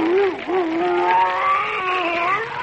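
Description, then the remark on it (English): Baldy, a tremendous old English sheepdog, grumbles in one long, wavering, whiny moan that dips and rises in pitch for a couple of seconds, steady and fairly loud, with no talking. “Baldy, his tremendous old English sheepdog, is stretched out peacefully at Dr. Tweedy's feet.”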